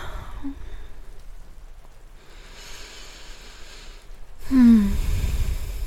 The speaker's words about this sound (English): It's raining. I didn't know it was gonna rain, did you? Yeah, it woke me up a couple of hours ago, yeah.